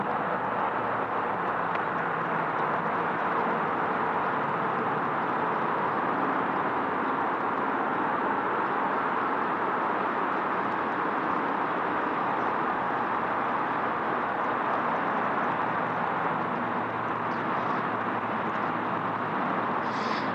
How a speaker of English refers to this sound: So that humming you hear in the background is actually the traffic overhead. I'm walking under the freeway ramps.